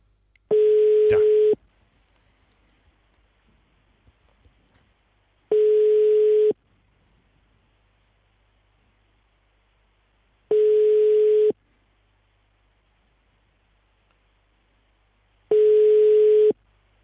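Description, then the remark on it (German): A telephone line tone sounds over an outgoing call to the press spokesperson of the Cologne City Triathlon: four steady, clear beeps, each about a second long, spaced roughly five seconds apart with near-silence between and no talking. The call does not get through. “Wahrscheinlich klingeln da in der Zentrale die Telefone heiß.”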